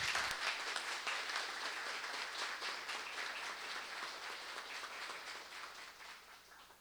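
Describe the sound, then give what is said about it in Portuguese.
A crowd at an official ceremony applauds steadily for several seconds as the honoree, Secretary Carlos Gomes, is invited to the head table. A dense wash of many hands clapping at once holds a fairly even level and eases off slightly toward the end. “Peço uma salva de palmas.”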